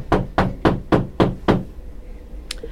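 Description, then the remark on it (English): Five firm, evenly spaced, loud knocks on a door, each with a short hollow ring, followed by quiet room tone and a faint brief tap at the end. “Just knock on it.”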